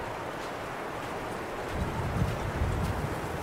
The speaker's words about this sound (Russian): Вот заметили, вот куда ни идем, короче, ветер постоянно дует прям в харю. Прям реально постоянно. Такое чувство, что он прям, сука, выбирает специально направление.